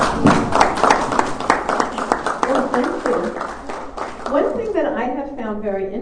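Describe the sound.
A conference audience applauds to welcome a speaker on holistic medicine, a dense, steady patter of many hands clapping for about four seconds, then fading as a person begins speaking over the last of it.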